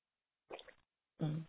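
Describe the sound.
Two brief sips of water, a soft wet slurp followed by a fuller gulping swallow with a faint voiced hum, heard alone and fairly quiet.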